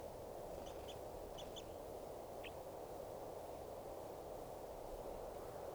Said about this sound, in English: It's recording the wild birds who have come in. Looks like about 2 birds are in song.